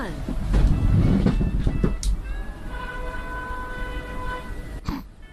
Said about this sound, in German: Ich habe irgendeine Hupe gehört.